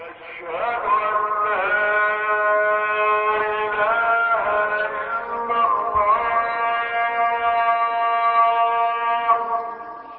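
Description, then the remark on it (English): An Islamic call to midday prayer in the residential district of 15th of May City, 60 kilometers south of Cairo, Egypt, echoing through a window: a single voice chants long, sustained melodic lines with sliding, wavering pitch, loud and unbroken for the whole stretch. “It is time for midday prayers in this dusty residential district known as 15th of May City.”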